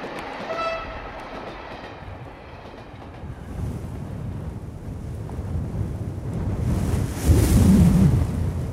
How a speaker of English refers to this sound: Is that an earthquake? No, that's the wind. Howling and growling, squeaking and creaking, blowing our house.